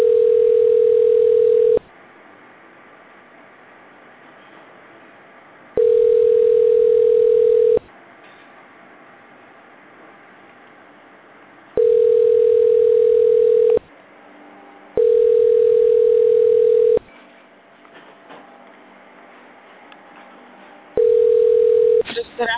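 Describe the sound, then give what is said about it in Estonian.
A telephone line tone on hold while calling the Allfresh sales department, with all lines busy: a steady mid-pitched beep lasting about two seconds, repeating five times at regular intervals, with quiet line hiss and faint murmurs in the gaps. “Hetkel on kõik liinid hõivatud. Nagu vist, jääge palun nagu ootele.”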